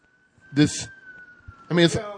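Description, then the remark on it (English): An emergency vehicle siren outside holds a steady high tone in the background while two short bursts of voices break in over it. “Guys, the sirens. Now it's all complete.”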